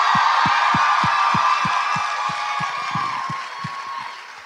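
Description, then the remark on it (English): A loud, steady roar of crowd cheering and applause, with a regular thumping beat underneath like rhythmic clapping or stomping, slowly easing off toward the end. “We're not cheering for the murderers.”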